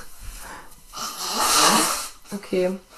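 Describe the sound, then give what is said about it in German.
A long, forceful nose blow by someone with a cold: a breathy, rushing burst that swells loud for about a second and then cuts off, followed by a short voiced murmur. “Ich muss mal ganz kurz meine Nase putzen.”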